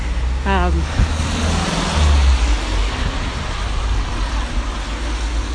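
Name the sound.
road traffic passing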